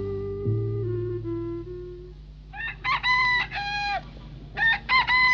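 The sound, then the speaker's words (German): A rooster crows loudly, two long cock-a-doodle-doo calls in a row, following a few seconds of low, steady droning tones. “Ich bin der größte Huhn, wo's weckt auf alle Leid.”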